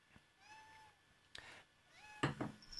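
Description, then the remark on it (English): A pet cat meows, two drawn-out rising calls separated by a pause, with a few soft thumps and clatters around them. “She wants it on my lap right now. But now my cats can hear it.”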